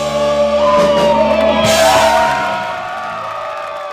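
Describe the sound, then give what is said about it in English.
A packed crowd cheers and shouts in the filled Rendezvous club in St. Joseph on a Friday, with whoops and yells rising over a dense roar of voices, loud, then easing slightly toward the end. “That Friday in St. Joseph at the Rendezvous, the room was filled and many others milled about the bar.”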